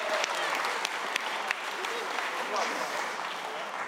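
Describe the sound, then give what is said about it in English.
A crowd claps steadily, dense overlapping hand claps forming a continuous wash of applause at moderate loudness, with a few sharper individual claps standing out and faint voices mixed in. “Give them all a big round of applause.”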